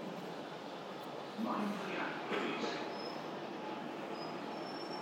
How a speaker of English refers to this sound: And we're in luck for a train.